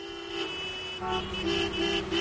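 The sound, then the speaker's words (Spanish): Several car horns honk over one another in a steady, overlapping, loud chorus, with a busy street rumble underneath and no voices, in a morning traffic jam in Málaga on the first day of the new school year. “Lo habrás notado esta mañana en el caos de tráfico.”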